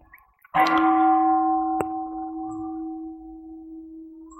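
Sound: meditation gong ringing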